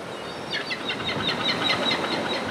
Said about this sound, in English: The men toss the scraps into the sea for the gulls and pelicans to fight over.